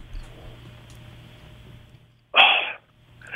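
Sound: sneeze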